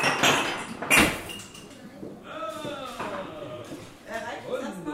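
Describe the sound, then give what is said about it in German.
Dishes and cutlery clatter as eight volunteers prepare breakfast for guests in the morning, with sharp clinks and one loud crash early on, while several people chat in the background throughout. “Alle packen fleißig an, es klappert Geschirr und Besteck.”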